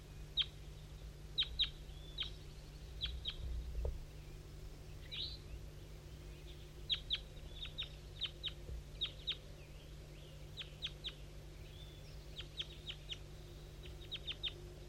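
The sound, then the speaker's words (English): Short, high bird chirps from the bird called 5-3, with a couple of juveniles chiming in, come in scattered clusters throughout, some doubled or quick-fire, like several birds calling back and forth over a steady low hum. “Five three and a couple juveniles chiming in a little bit, but I think the wild bird went right on past.”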